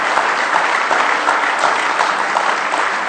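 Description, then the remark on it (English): An audience claps their hands in praise to the Lord during a morning service, a dense, steady wash of applause from many people that fills the room loudly for a few seconds with no voices breaking through. “Let's just give the Lord another hand clap of praise this morning.”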